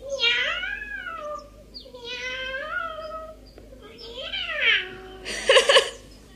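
A cat being set on mice and rats meows three times in a row, each call drawn out and wavering and loud, ending with a brief harsh, spitting burst.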